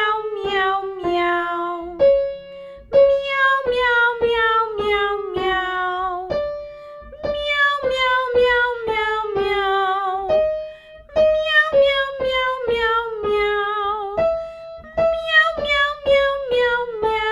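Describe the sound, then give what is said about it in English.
A single voice sings loud, clear meows as a singing exercise, stepping down a five-note descending scale over and over, imitating a hungry cat's cry in a steady, strong rhythm. “And now we're going to sing a 5-note descending scale, just like a hungry cat. So we sing meow, meow.”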